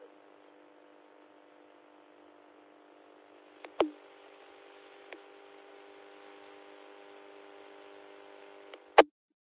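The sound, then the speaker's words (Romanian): A steady radio carrier is left on the air as a test, to hear whether there is an effect, an even, buzzing hum with a hiss of noise, broken by a few sharp clicks before cutting off abruptly at the end. “Până atunci, uite, las eu o purtătoare ca să auzi dacă există efect.”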